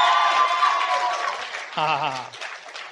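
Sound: audience clapping hands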